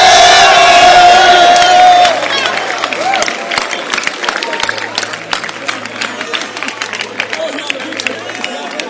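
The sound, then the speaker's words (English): A crowd shouts and cheers excitedly, loudest in the first two seconds, then a dense, steady roar of overlapping voices continues with scattered sharper yells. “And you see, because we are excited and shouting, you may think I'm joking.”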